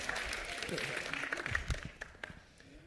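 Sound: audience clapping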